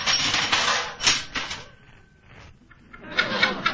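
Bursts of typewriter clatter, rapid keystrokes in busy runs that stop briefly with a faint hum before the clacking starts up again.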